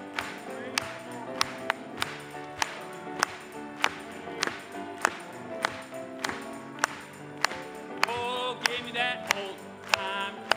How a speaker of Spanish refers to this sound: Vamos a aplaudirle.